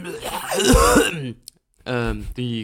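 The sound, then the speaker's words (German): A rough, phlegmy throat clearing with a broad cough-like burst, followed after a short pause by a voice speaking. “Die Gärung in meinem Hals erzeugt Schleim, der Schleim erzeugt Husten, der Husten erzeugt Gärung, Gärung des Schleims im Husten.”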